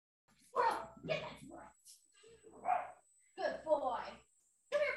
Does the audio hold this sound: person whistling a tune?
no